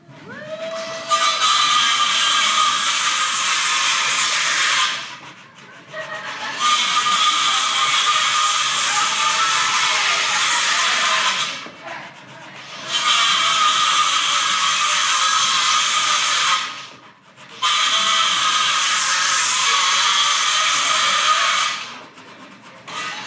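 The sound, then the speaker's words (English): Loud, harsh sawing with a handsaw in a sawing competition runs in four long stretches of about five seconds each, separated by brief pauses, with a gritty, rasping hiss throughout and no voices. “You have some lines in a paper, just start sawing and just, we'll just see how it goes here.”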